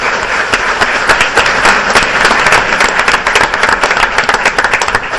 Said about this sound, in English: So a round of applause, please, for our sponsors.